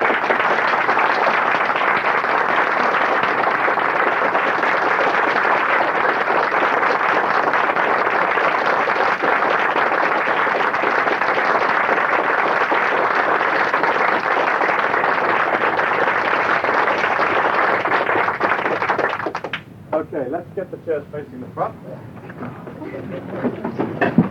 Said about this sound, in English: At this point, let us just stand up and I would like you to clap for a few minutes, the hardest clapping that you can, okay? Let us just clap because you've done well.